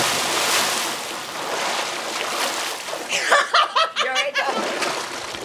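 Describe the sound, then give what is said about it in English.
A loud, rushing splash of water as several people jump into a pool fills the first few seconds, followed by bursts of excited shouting and laughter from several people as the water keeps churning. “Bottom line, I really, really want to jump in the pool. Let's do it.”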